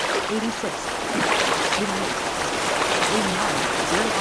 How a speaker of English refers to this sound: Now, as I continue to travel here, I can hear the waterfall.